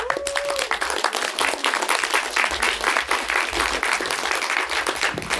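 Loud, dense applause from a large crowd fills the whole stretch, a sustained roar of many hands clapping steadily, with a brief whistle near the start.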